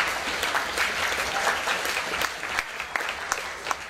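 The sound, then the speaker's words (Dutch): An audience at a tournament claps steadily throughout for the jury and the registry, a dense patter of many hands with a few sharper individual claps standing out near the end, with no voices over it. “Echt groot applaus, want het liep allemaal weer op rolletjes.”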